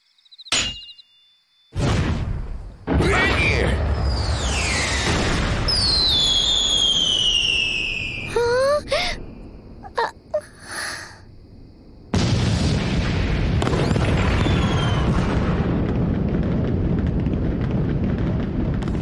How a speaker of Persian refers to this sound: ببینم اون ترقه مسخره دیگه چی بود؟